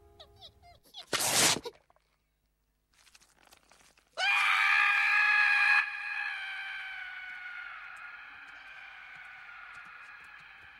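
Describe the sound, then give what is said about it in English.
A short harsh tearing burst as a female squirrel rips an acorn away from Scrat's chest, removing all his chest fur, then after a pause a loud, piercing agonized scream from Scrat that holds steady before easing into a long, trailing wail that slowly fades. “She rips the acorn away from his chest, removing all his chest fur in the process. He screams in agony.”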